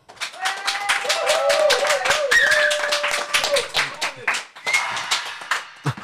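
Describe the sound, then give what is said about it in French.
A TV show studio audience claps steadily and loudly, dense applause filling the whole clip with some whoops and cheering voices rising over it before it tapers off near the end. “Donc s'il vous plaît, un tonnerre d'applaudissements, mesdames et messieurs”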